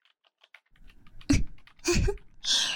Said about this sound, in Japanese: 必死にパソコン画面に睨んで、キーボードを叩きながら、作業に集中するふりをしたって。